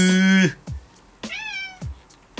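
A black cat meows twice, a long loud harmonic cry followed by a shorter rising meow, with soft low thumps between and no voices.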